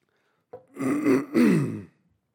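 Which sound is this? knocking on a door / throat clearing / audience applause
throat clearing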